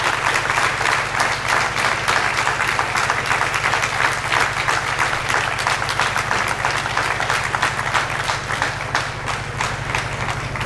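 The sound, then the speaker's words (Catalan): A crowd applauds steadily in tribute to the late Joan Ologaray, for the whole stretch, a dense, loud wash of many hands clapping with no pause, and a low steady hum beneath it. No one speaks. “Un fort aplaudiment per a ell.”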